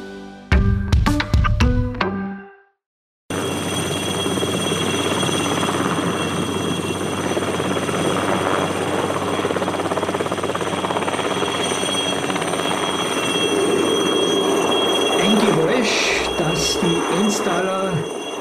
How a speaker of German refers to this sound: Hören ist das Rattern und dieser gewisse Sound der Turbine, der Alouette. Ich glaube, es gibt keinen Installer, der nicht den Unterschied zwischen einem Alouette und einem anderen Hubschraubergerät kennt, weil dieses Geräusch, dieses ganz, ganz